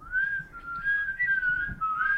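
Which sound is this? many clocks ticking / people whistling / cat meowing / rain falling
people whistling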